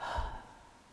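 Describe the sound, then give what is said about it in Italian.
A single forceful breath pushed out, a loud airy rush that starts abruptly and fades over about a second, with no talking. “È diverso. Non è un sospiro. Espirò.”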